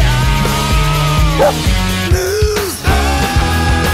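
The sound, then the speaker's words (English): A short, upbeat musical jingle for a dog news segment, with steady rhythmic chords, plays loudly throughout, with a brief dog-bark sound popping up in the middle of the tune. “Sorry, I don't have a jingle for ant news.”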